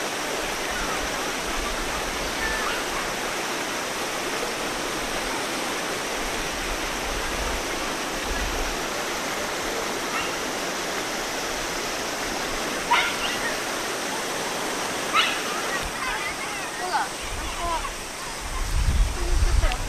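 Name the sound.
flowing river water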